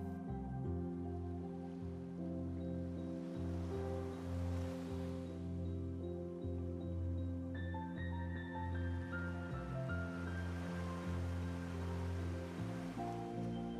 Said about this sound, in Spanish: Entre ramas puedes volver a intuir el otro lado de la isla. Pues escuchas las suaves olas del mar de nuevo.